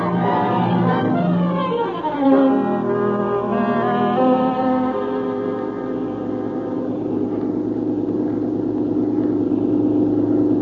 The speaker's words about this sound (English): We've bought a car. Hey, it's running. Well, sure it's running. Oh, but what fixed it?